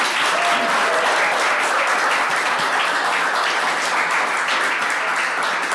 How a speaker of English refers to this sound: First of all, give all our people a wonderful round of applause.